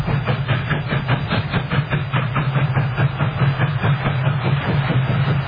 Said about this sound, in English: When the first trains chugged into Arabia, they covered a distance of 1,303 kilometers from Damascus to Medina.